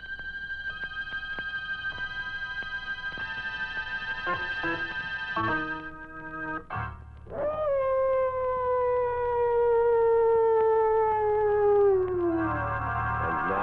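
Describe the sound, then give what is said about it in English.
Mad dogs howl in long, drawn-out wails that slowly slide downward in pitch, fairly loud, with a steady ticking like a clock running underneath and no one speaking. It is the background of a radio mystery story, The Thirsty Death, set in darkest Africa. “John Carradine isn't exactly soothing to your nerves, but put them together in a story set in darkest Africa with mad dogs howling in the background and, whew, well, find out for yourself.”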